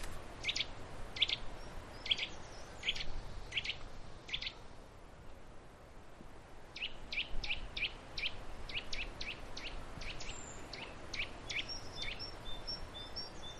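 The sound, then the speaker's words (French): A Eurasian nuthatch calling with quick series of sharp, piping notes in two bouts separated by a short pause, over a steady outdoor hiss, with faint higher bird whistles behind. “Ah, là, c'est la citelle. Ouais. T'as entendu? Tweet, tweet.”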